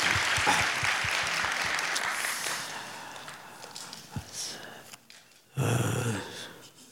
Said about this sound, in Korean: 특별히 오늘 또 그 사장님과 임원분들이 직접 우리와 함께 예배 드리고 싶고 젊은이들의 온기를 느끼고 싶어서 맨 앞줄에 와 계시는데 우리 한번 박수로 환영했으면 좋겠습니다. 감사합니다.